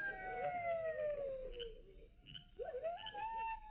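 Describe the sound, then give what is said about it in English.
Coyotes howling, several high, wavering voices overlapping in long sliding cries that drift downward, dip briefly, then rise again, steady and moderately loud with no one talking. “I don't hear nothing except them coyotes howling.”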